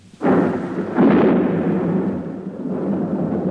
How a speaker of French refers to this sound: réveillée par le fracas de l'orage, s'est levée en hâte pour voir si tous ces gentils minets ne sont pas trop effrayés.